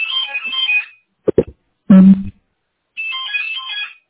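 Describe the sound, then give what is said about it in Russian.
A phone rings in two warbling electronic bursts about two seconds apart, with a few sharp clicks and a short muffled thump in the gap between rings. “Ну, звонок закончился автоматически. Но такое ощущение, что что-то с вашим телефоном, потому что звонок как бы шел, но...”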